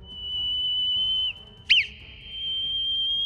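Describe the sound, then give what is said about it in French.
Three whistled tones forming the Morse code letter K (dash, dot, dash): a sustained high note, a quick brief chirp, then another sustained note, clear with no talking. “Par exemple, la lettre K qui s'écrit trait, point, trait sera...”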